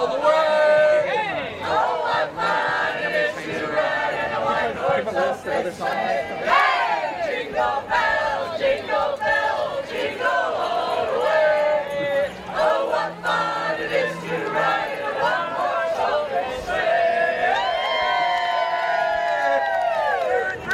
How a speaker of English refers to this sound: How about Jingle Bells? Okay. You guys know Jingle Bells? Let's hear it out. One, two, three, go!